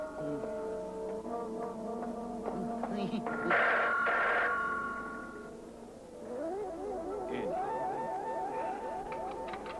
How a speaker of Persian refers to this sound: چی شنیدی؟ انگار صدای تلفن ما بود.